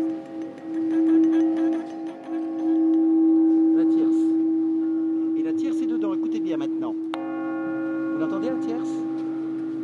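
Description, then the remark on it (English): A large cathedral bell, a C sharp with five other tones within it, hums with a deep, sustained tone and rich overtones, then is struck again partway through, ringing out fresh. People talk faintly over the resonance. “Eight of the nine new bells, now in the North Tower, were cast by a French foundry.”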